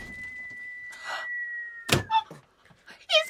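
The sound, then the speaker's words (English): A single sharp, dull thud as a piece of fruit is fired through a door, after a steady high whine, followed by a few short squeaky sounds. “He's fired a warning fruit through the door.”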